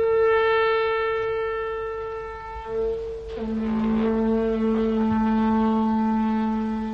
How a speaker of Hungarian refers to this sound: Gyors figyelmeztetés kell itt. Fújd meg a riadójelet! Jól beszélsz. Igaz. Már fújom is.